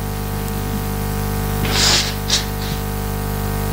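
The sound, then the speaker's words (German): A person blows their nose: one longer, breathy honk followed by a short second puff and a faint trailing sniff, over a steady electrical hum and hiss. “Ich muss meine Nase putzen.”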